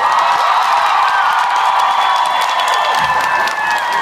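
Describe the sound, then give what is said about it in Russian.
A large audience applauds and cheers loudly for performers on stage, a dense, continuous wash of clapping and excited shouts that holds steady for the whole few seconds without any break. “А вот эти аплодисменты, ребята, Энджел, Ника, для вас!”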